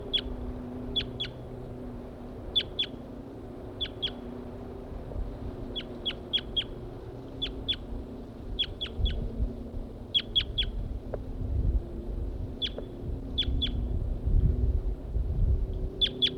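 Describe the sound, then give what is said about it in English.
Wild birds, including a wild male, give short, high-pitched chirps, often in quick pairs or triplets, repeating irregularly over a low, rumbling wind-like background noise. “I've located the birds again. This is a wild male.”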